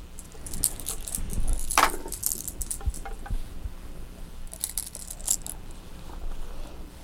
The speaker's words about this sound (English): Oh, what's that? Those are keys.